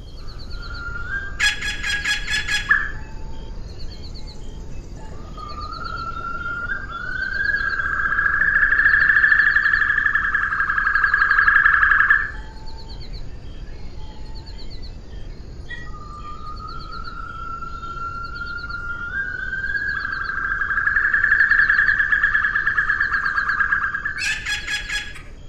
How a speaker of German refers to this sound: ich finde die Assumption Weißkehlralle besonders schön, weil dort … mit besonders viel Elektronik einen Klang erzeugt hat